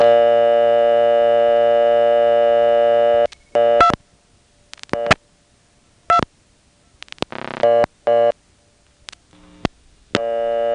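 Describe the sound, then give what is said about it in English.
A telephone exchange's vacant number tone on the second selector, heard after dialing 2-2: a steady, buzzy harmonic drone for about three seconds, then it cuts off and is followed by scattered sharp clicks and short bursts of line noise. “That's vacant on the second selector.”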